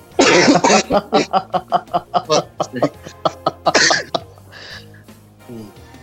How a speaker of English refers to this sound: You know, it just gets you. It gets you choking whatever you're drinking, man. Just no doing it. Apologies to anyone listening in that hears me coughing